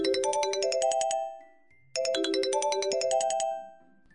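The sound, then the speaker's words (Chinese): A mobile phone ringtone plays on a bus, a bright, chiming electronic melody twice, each phrase about 1.5 seconds with a short pause between. It is clear, with no voices. “喺佢电话响嘅同时，我听到另一啲嘢啊，不如俾你听下。”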